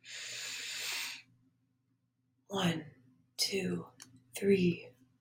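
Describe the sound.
A deep, breathy inhale lasting about a second, fairly loud, followed by a pause and then a few short voiced sounds from a speaker.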